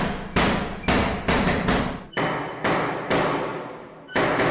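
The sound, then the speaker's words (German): Door knockers in the old town of Barcelona rap out a string of loud, sharp metallic blows in an uneven rhythm, each strike ringing briefly before the next lands. No voices. “wird die Altstadt quasi von Barcelona zu einem großen Orchester von Türklopfern, die je nach Generation manchmal sehr professionell sind und eine zufällige, wunderbare und manchmal chaotische Musikkomposition spielen, die sich von Tag zu Tag ändert.”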